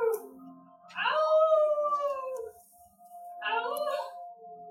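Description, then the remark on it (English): Two long, wavering howls rise and fall, heard over a radio contact and sounding thin, with a steady tonal hum underneath and a brief pause between them. “She hears howling on the radio contact, and that's why she's responding in that way.”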